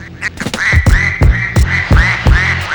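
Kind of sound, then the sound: bird, duck quacking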